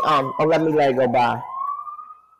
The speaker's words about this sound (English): I actually hear the sirens in your background, and I'm like, oh. Yeah, don't you hear that? I miss it.